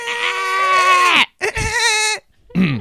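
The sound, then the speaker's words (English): A person's voice imitates a screaming goat: a long, wavering bleat followed by a second shaky cry and a brief third burst, loud with no other talk. “How do we goat scream again?”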